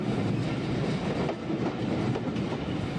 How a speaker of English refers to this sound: Children get really excited as we trundle up and down the line, and they love hearing the click-clack sound that my wheels make as we pass over the rail joints.